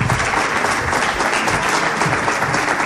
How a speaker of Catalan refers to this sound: I anem ja a aquest aplaudiment, clar que sí.